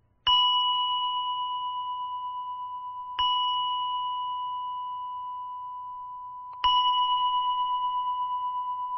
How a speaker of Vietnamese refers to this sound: Tâm hồn phải thanh thản, phải nhẹ nhàng mới đủ cái công lực lên thỉnh chuông. Cho cái người thỉnh chuông lên là phải nhẹ nhàng 3 tiếng.